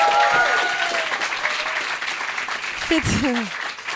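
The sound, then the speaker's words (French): An audience applauds steadily to encourage a guest before an anecdote contest, a dense wash of clapping that fills the whole clip, with a voice briefly calling out over it near the end. “Allez, encouragez-moi avec les applaudissements là, parce que.”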